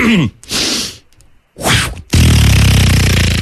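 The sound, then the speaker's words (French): A voice imitates an arrow in flight: a few breathy, airy whooshes, then a sudden loud, buzzing impact that holds steady until the end. Forceful, with no other sounds. “Est-ce que tu veux nous faire la flèche?”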